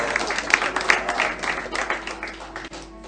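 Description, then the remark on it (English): A crowd at Mount Zion applauds for the Lord Jesus Christ, many hands clapping steadily in a dense, continuous patter with a few sharper claps standing out, fairly loud throughout and easing slightly toward the end. “Let's clap for the Lord Jesus Christ.”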